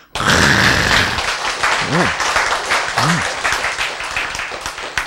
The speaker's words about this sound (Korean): 박수!